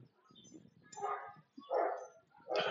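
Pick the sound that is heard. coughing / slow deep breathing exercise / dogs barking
dogs barking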